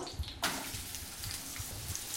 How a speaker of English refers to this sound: Yeah, you're going to saute that. Saute those up. Ooh, I like that sound. You did a fine job slicing these onions.